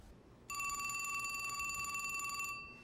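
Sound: telephone bell ringing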